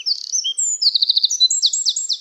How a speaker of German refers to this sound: Einige besonders ausdauernde Sänger tirillieren auch noch am Abend, zum Beispiel das Rotkehlchen.